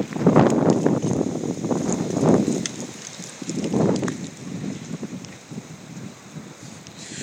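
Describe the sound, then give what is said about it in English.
Strong wind roars through a group of trees on a very windy day, in surging gusts, a broad rushing hiss that swells and fades several times, with low rumbling buffets against the microphone and no voices. “we've got quite a few trees around here and you hear the wind kind of blowing through them.”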